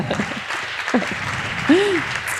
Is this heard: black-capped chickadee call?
no